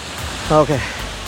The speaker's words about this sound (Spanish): Se dejó venir el agua más fuerte, pero no importa.